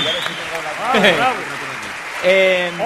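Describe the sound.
Steady audience applause for a bagpipe band at an evening show in Asturias fills the whole stretch, a dense crackle of clapping, with loud voiced cheers and shouts rising over it twice, once in the middle and again near the end.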